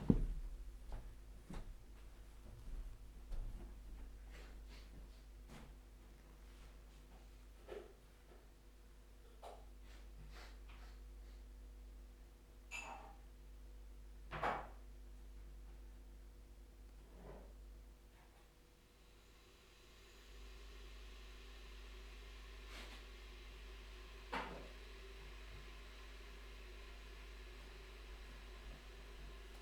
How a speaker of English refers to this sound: Today I made you listen to 30 seconds of me putting the kettle on and being sniffly.